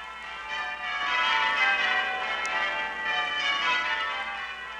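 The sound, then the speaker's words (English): Church bells of Westminster Abbey and churches throughout the kingdom peal in celebration of the birth of a son to Princess Elizabeth and the Duke of Edinburgh, November 1948, many overlapping rings blending into a continuous, reverberant wash of bright tones that holds steady throughout, with no voices. “From Westminster Abbey and from churches throughout the kingdom, the joy bells rang out when it was announced from Buckingham Palace that a son had been born to Princess Elizabeth and the Duke of Edinburgh.”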